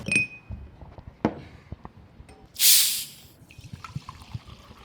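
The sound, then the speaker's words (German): Walser sparkling mineral water being served: a few light clicks and taps, then a loud, short burst of gassy hiss, followed by a soft fizzing trickle, with no talking. “Wasser mit oder ohne? Ja, wenn schon mit.”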